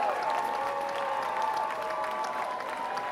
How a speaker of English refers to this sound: Get a round of applause for the ugly suit people. They were pretty badass.